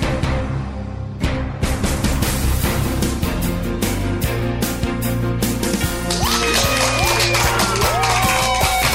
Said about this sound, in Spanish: Y con esa energía positiva y esos aplausos damos inicio a este episodio ya 43 del programa Te Invito a un Café.